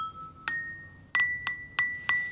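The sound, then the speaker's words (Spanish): Five crisp strikes on three glasses filled with different amounts of water, each leaving a clear ringing tone; the pitch shifts after the first hit, and the later taps come in a quick, fairly even sequence, bright. “Yo tengo 3 vasos acá. Ahora voy a cambiar. Escuchen. Cambio las cantidades. Cambian los sonidos.”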